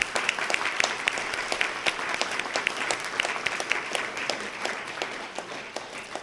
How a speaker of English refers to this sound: Let's give a round of applause for a wonderful program.